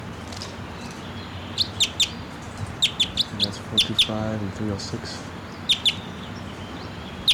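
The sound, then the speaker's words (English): Sharp, high chirps from a wild bird perched above a net about 10 feet from the ground, looking down at decoys, ring out in quick bursts of two or three, repeating several times against a steady outdoor hiss, while a man speaks quietly partway through. “and that bird just flew down. And he's perched right above the net now, about 10 feet from the ground, looking down at the decoys.”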